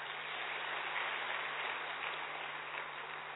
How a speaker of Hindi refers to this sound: चलो अपने लिए ताली बजाओ।